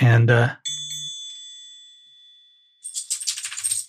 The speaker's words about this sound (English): And the dinner bell just rang, which means it's time for me to give the dog the treat, which means I didn't plan my recording well.